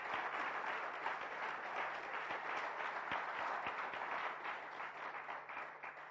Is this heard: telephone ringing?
no